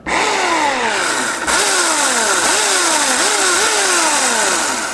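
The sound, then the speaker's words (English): An electric chainsaw grinds loudly through ice, carving an ice sculpture, its motor whine repeatedly dipping and climbing in pitch about once a second over a steady hiss of spraying chips, with no voices. “I wish there was a motor on this thing, but it turns out that chainsaws that are electric work a lot better on ice sculptures.”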